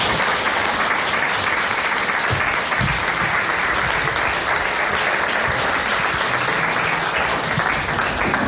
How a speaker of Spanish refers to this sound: Pues ya estamos escuchando los aplausos. Ha finalizado ese acto de hermanamiento con Ferrol, que tenía lugar justo en el salón de plenos del Ayuntamiento de Mondoñedo.